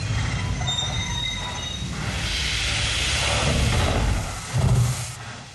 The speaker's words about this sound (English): The recorded sound of a train approaching signaled the start of a rare and moving commemoration today. It was at the spot where trains, cattle cars with human cargo, stopped and disgorged prisoners at the Nazi concentration camp at Auschwitz